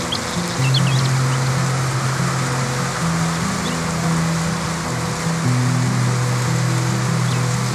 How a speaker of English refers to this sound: rain is getting louder and louder. Notice that those other sounds are starting to fade into the background as more and more you hear the sound of the rain, a cleansing sound, a relaxing sound. Pay attention to that sound now.